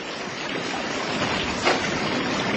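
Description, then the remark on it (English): A steady, broad roar of rushing flood water washing a whole building site away, loud, with a constant churning hiss that never lets up and a brief surge partway through. No voices. “It's flood water and it's washing the whole site away.”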